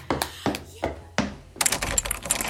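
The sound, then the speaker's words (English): Four firm, hollow knocks on a door at an even, unhurried pace, followed by a brief burst of busy clattering and rattling. “Oh, someone's at the door.”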